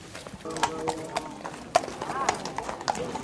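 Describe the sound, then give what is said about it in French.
Horses' hooves clip-clop in an uneven, overlapping rhythm among mounted huntsmen preparing for a hunt with hounds after roe deer, sharp knocks scattered throughout, with a murmur of voices and other outdoor activity in the background. “Alors là, on est au milieu des chevaux et des veneurs.”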